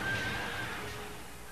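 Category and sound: animal, horses neighing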